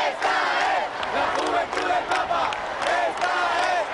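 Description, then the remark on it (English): A large crowd of young pilgrims chants loudly and continuously as the Pope leaves the raised altar stage, the massed shouting rising and falling in rhythmic surges with a bright, cheering edge throughout. “As he left the stage, firemen clambered onto the structure to assure its safety, while the young people continued to chant.”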